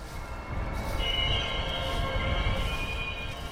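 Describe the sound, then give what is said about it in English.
An orange BNSF freight locomotive rumbles past a little more than 1,000 yards away, by a marsh between the Columbia River and the tracks across the river from Portland, a sustained high metallic squeal rising over the low steady roar of wheels on track. “An orange BNSF engine squeals by a little more than 1,000 yards from the scientists as they prepare fish traps and other sampling gear.”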